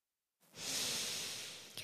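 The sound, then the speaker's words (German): A single deep, airy breath, a long steady rush of air after a moment of silence, with a brief catch near the end and no talking. “Einmal tief durchatmen und Danke sagen bei den Ozeanen.”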